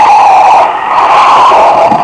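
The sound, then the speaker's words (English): A car pulls up and stops, its engine a loud, steady rumbling whine that holds evenly for a couple of seconds with no voices around it. “I was out of my car almost before it stopped”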